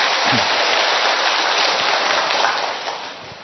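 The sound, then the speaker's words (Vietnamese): A loud, dense round of applause from a gathered church audience, many hands clapping steadily for a few seconds before the sound begins to ease off at the end. “Đồng ý thì cho một tràng pháo tay thật lớn lên thưa anh chị em.”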